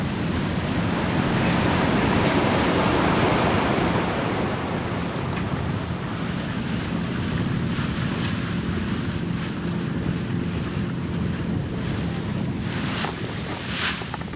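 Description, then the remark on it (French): Steady rush of ocean waves washing around a boat at sea, with wind buffeting the microphone throughout and occasional sharper splashes near the end; no one speaks. “Et puis le bateau, il est soumis au mouvement de la houle, des vagues.”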